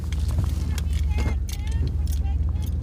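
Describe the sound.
Steady low engine rumble and road drone fill the cab of a pickup truck as it drives, with muffled voices occasionally rising over the constant hum.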